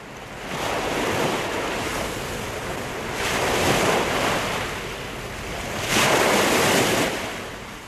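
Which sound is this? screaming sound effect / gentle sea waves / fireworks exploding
gentle sea waves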